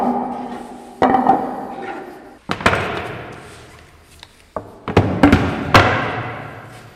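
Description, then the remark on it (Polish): Large wooden hammers driven by a water wheel pound paper to press it smooth, in an uneven rhythm: about five or six loud thuds, each ringing out briefly over a low, steady mechanical rumble and creak. “No i oczywiście ten papier trzeba było jeszcze wyprasować, a do tego używano dużych drewnianych młotów, które były napędzane kołem wodnym.”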